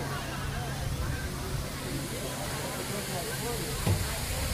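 A steady, loud rush of water from a backwards waterfall, a water ride where the water flows up, roars without pause, with murmuring voices and crowd babble mixed underneath and a brief surge near the end.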